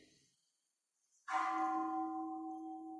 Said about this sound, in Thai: ฟังเสียงระฆังให้สบายใจสิ